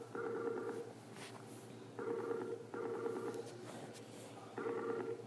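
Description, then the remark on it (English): An outgoing phone call being placed again after the video was turned off rings through, a repeating electronic ringing tone that sounds in bursts of about a second with short gaps between. It is steady and fairly loud, with no voices. “Let's make the phone call again.”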